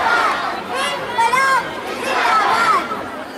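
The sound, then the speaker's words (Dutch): A steady murmur of many overlapping voices from a protest crowd at Shaheen Bagh, continuous and fairly loud, with no single speaker standing out and brief higher-pitched voices rising and falling within the babble. “Dus je hoort veel geroezemoes en hoe dichterbij je komt hoor je, nou ja, soms gezang, want er wordt veel gezongen.”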